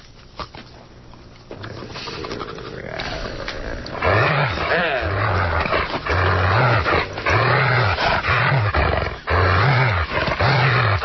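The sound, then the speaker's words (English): A dog, Einstein, on a panel choosing a dog to lead Oakland, growls and barks in a steady run of loud bursts, about eight in a row, after a few seconds of quieter rumbling buildup. “I never thought I would be sitting on a panel with a socialist dog.”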